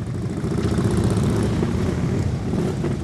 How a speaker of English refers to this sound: The arrival of Maloney's hearse was preceded by a procession of police officers on gleaming motorcycles.